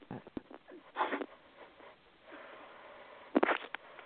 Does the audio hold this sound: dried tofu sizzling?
no